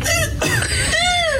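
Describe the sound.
A person does a loud seagull impression: high, nasal squawking calls that swoop and arch in pitch, about three cries in quick succession.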